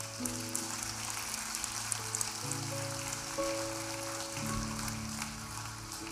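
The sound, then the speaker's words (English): Steady crowd applause for people raising their hands to give their lives to God, a dense crackling patter of many hands clapping, continues throughout over sustained low keyboard chords that shift pitch a few times. “And let's just give applause for these that are raising their hand.”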